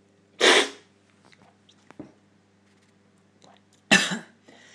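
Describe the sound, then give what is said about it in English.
Two loud, noisy bursts about three seconds apart, a sharp slurp while tasting Ecuadorian Choco Andes coffee, with faint rustling and a low hum between them and no talking. “I just slurped with a bit too much of enthusiasm, I guess.”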